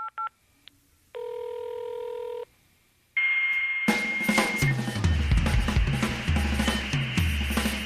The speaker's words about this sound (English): How awesome is that? Sounds that will never be heard again. The 2400 BPS modem. Too good, too good.